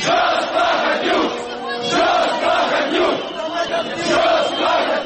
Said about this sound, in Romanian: mii de oameni demonstrau la Parlament împotriva învestirii guvernului pentru alegeri anticipate împotriva lui Vlad Plahotniuc.